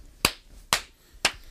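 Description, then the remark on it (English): Three sharp, loud hand claps made to sync up audio and video at the start of a recording, evenly spaced about half a second apart, each a crisp bright crack that dies away quickly, with no talking in between. “Got to do the clap to sync up the audio and the video, right?”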